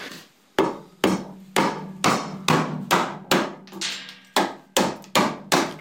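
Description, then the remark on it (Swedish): A very large wooden mallet strikes a gouge (a round chisel) again and again, hollowing out the inside of a wooden lur horn, about a dozen sharp, solid knocks in a steady rhythm, each with a short ringing decay over a faint low hum. “Så tar jag en skölp och en jättestor träklubba.”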